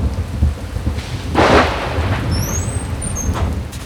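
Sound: pouring rain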